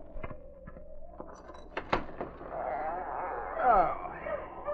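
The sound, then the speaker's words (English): A team of dogs coming from Dawson, driven by a man, barks in short, sharp bursts, then breaks into a longer stretch of overlapping yelps and howl-like cries that swell and waver in pitch, with no talking. “I hear dogs.”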